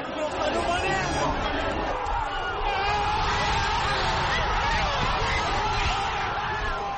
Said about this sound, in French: Une clameur assourdissante après 2 heures de silence et de stress pendant une finale très fermée contre les pharaons.